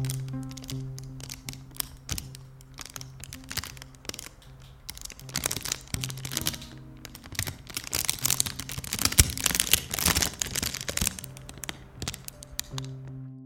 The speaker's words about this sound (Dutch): Ik wil het plastic. Ik pakte een plastic zakje en begon het subtiel te bespelen.